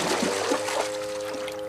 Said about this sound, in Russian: Потоп. Вода? Вчера ее здесь не было.